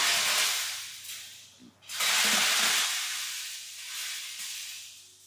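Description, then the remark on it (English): A hammer mill crushes rocks, poured in by a worker, with an input size of about 15 millimeters: a loud, continuous hissing roar that surges and eases, dips sharply for a moment early on, then swells back, over a steady low mechanical hum. “Yeah, okay, so we're going to hear now the machine's about to go on for the crushing.”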